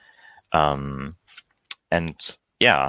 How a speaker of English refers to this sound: And especially you can combine these sounds in the music editor by clicking on these buttons to have some notes, and then it will play top down.